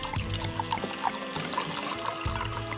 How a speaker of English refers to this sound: He decanted the cheap wine and winced as he poured some into Christophe's glass.